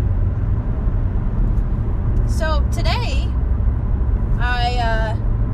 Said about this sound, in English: I hope that you can hear me okay over my car. My car's kind of loud, and I'm going 55 now.